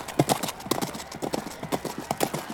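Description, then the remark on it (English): Rapid hoofbeats clip-clop in a steady, galloping rhythm as several horses run on hard ground near the start of a long-distance marathon race against human runners on a very hot day, the sharp strikes overlapping in quick succession. “Looks like the horses are doing pretty well so far.”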